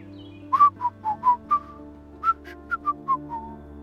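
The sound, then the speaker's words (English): Someone whistles the song "How Sweet the Tuneful Bells" at a golf tournament, a short, bright melody of about a dozen clear notes in two phrases with a brief pause between them, no talking. “gleefully whistled the song, "How Sweet the Tuneful Bells," for the rest of the tournament”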